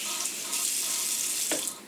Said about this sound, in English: Mom, can you turn off the water?